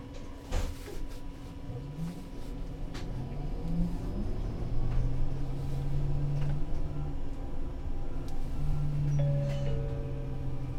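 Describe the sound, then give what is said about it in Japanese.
Steady low engine rumble inside a moving Toei city bus, with rising and falling drone tones as it accelerates and shifts, plus occasional rattles and clicks; no one speaks. The next stop is Ukita. “お客様にお知らせします。都営バスでは、輸送の安全性向上のため、終点停留所において車内点検を実施しています。”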